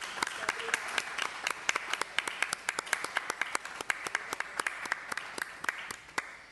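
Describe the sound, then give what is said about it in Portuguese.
A small audience at a meeting applauds steadily for several seconds, with crisp, irregular claps overlapping at moderate volume and holding fairly even throughout. “peço-lhes um aplauso para a Helena”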